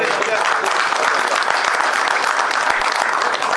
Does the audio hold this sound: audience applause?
yes